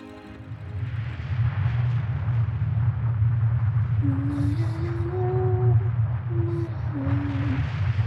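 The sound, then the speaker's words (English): Gaseous explosions make a loud, continuous deep rumble in a sky ablaze with shooting stars over a bombed-out desert. Thin whistling tones slide over it in the second half. No voices. “Sky is ablaze with shooting stars and gaseous explosions as Mr.”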